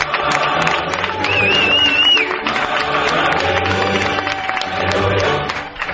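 A large crowd gives a sustained ovation for the women's European champions, dense clapping and cheering filling the space for several seconds, with a shrill whistle rising briefly above the din and voices blended into the roar.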